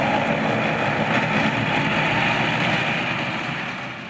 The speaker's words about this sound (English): like a scene from a movie, a tank throws up clouds of water and races onwards out of sight.